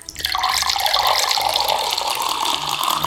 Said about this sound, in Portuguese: Já sei, uma cascata.